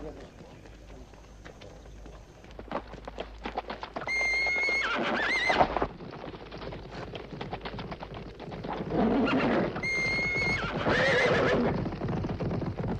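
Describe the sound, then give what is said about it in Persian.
Rapid, steady clip-clopping of several horses' hooves, riders coming this way, builds in loudness, joined twice by high, harmonic whinnies that rise and fall over the drumming gait. “چند سوار به این سو می آیند؟”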